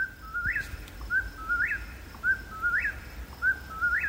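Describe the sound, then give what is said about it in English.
A whippoorwill calls over and over, its clear whistled three-note phrase rising sharply at the end, repeated about four times in a steady rhythm against a faint background hum. “Okay, Stan, I'm not great at identifying bird calls, but even I know that one's the whippoorwill.”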